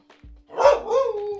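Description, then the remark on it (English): A dog barks, one sharp bark quickly followed by a longer, drawn-out bark that slides downward in pitch, with no one talking. “Listen, Rosie's involved. Listen to this. And Rosie.”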